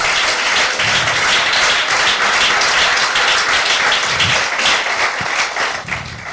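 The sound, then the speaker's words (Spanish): An audience applauds loudly, a dense wash of many hands clapping steadily for several seconds, easing slightly at the very end. “¡Apláudele fuerte!”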